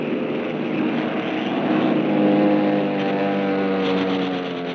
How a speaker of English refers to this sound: Machine guns chattered, planes roared and dived